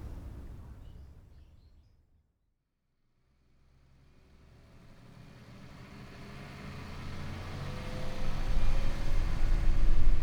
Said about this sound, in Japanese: よかった、バスが動いてて。